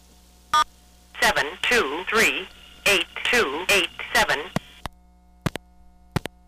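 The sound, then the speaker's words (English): A very old Cognitronics automated number announcement (ANAC) system, called from a payphone in Boston, reads out a string of numbers over a narrow, tinny phone line, framed by sharp clicks before and after the recitation. “Now, the name of that ANAC, the manufacturer's name, is called Cognitronics.”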